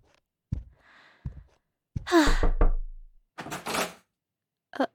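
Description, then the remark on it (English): Three dull, spaced, moderately loud knocks on a hotel room door, followed by breathy vocal sounds like a gasp or sigh with no clear words. “Nobody even answered the door except for one old lady who called me a harlot.”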